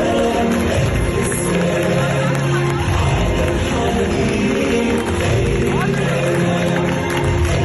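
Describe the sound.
A dense, steady wash of crowd noise at a Western-style wedding, with guests ululating and clapping as an Arabic love song plays and a father escorts his daughter to the groom, blending into a loud, continuous celebratory din that never drops out.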